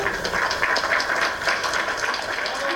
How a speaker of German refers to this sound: Übrigens gab es nach der Urteilsverkündung sogar Applaus aus Teilen des Publikums.